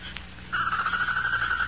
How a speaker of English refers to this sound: That's the prairie chicken. She moans like that when she settles down to roost. I hear it every evening the same. I used to hate it was so mournful. Now it keeps me company.